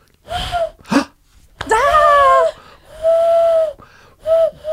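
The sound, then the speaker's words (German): A voice imitates an owl with a series of hooting, whistly calls, some wavering and rising in pitch, interspersed with breathy gasps and short pauses, sounding fairly loud and alone. “Und dann gibt es Eulen und die machen...”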